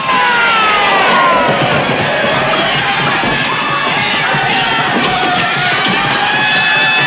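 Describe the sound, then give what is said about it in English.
A large angry crowd of protesters roars and shouts continuously, a dense wall of many overlapping voices, loud, with a few higher yells rising above the din throughout. “They all sit back in the seat, grinning and waving to the angry crowd.”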